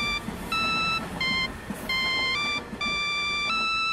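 A custom ringtone on a flip phone plays from a pocket on a packed rush-hour train, a bright, electronic melody of short stepped tones in quick succession, loud, over a low rumbling background.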